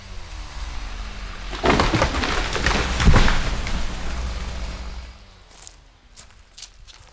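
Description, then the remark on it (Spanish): Footsteps crunch along a forest trail while walking towards a spring, through an area heavily damaged by logging, a steady run of scuffing steps on leaves and twigs that fades out, leaving faint outdoor ambience with a few bird calls. “En este momento vamos caminando rumbo al manantial, zona brutalmente azotada por la tala.”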